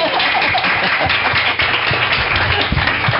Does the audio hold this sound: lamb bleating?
no